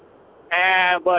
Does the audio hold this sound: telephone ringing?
no